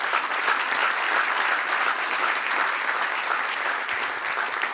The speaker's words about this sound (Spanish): Dale un aplauso a nuestro Padre.